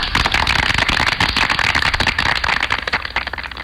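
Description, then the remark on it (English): An audience claps steadily for a few seconds, a loud, dense patter of many hands with no voices over it. “Please clap.”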